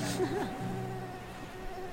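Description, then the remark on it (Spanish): A thin, steady buzzing like a mosquito, held for about two seconds with a slight wavering in pitch early on. It sounds like a voice imitating the insect's whine. “Mosquito.”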